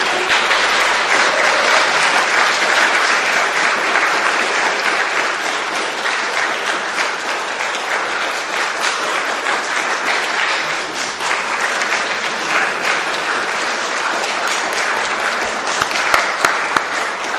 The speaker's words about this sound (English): could you give her a big round of applause, please?